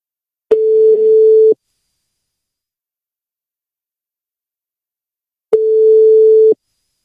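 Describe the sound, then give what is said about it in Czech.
A telephone line tone after a dropped call: two steady, mid-pitched beeps, each about a second long, separated by roughly four seconds of silence. No voices are heard. “Hele, vypadlo to, spadl ti hovor.”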